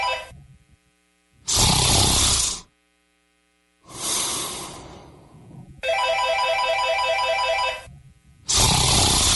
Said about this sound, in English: That's your phone.